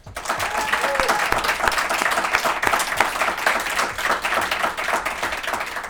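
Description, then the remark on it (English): An audience at an event claps steadily to welcome a guest, sustained dense applause at an even, fairly loud level, the individual claps blurring into a continuous patter. “Please do me a favor and give him a round of applause and welcome him.”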